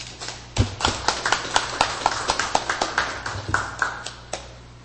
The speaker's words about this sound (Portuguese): Nesse momento, os componentes da nova mesa diretora da Câmara Municipal assinaram seus respectivos termos de posse. Uma salva de palmas.